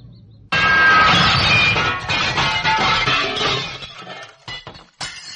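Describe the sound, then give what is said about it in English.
A sudden loud crash of breaking glass as a stone hits a window, followed by a sustained cascade of shards tinkling and clattering down, tapering off with a few scattered clinks and one last sharp hit. “See the stone hit the window. See the glass fall like jewels from the window.”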